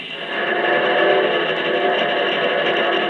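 A locomotive whistle blares in one long, steady, hoarse blast lasting about three seconds, loud and unbroken, with a harsh, reedy mid-range tone and no voices.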